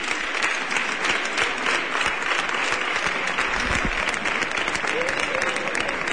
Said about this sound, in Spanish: vitoreando.